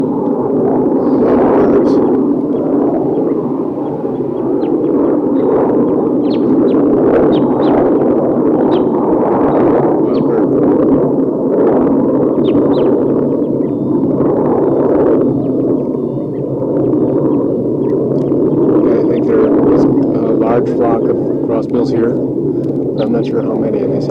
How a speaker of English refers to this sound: So recording, I'm down by the tails of birds, and there's a wild crossbill on top of a tall eucalyptus here.